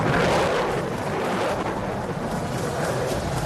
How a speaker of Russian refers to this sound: Вот так эффектно Су-35 сужает сопла. Благодаря этому он сейчас выруливает на взлетную полосу. Уникальная машина, уникальный истребитель.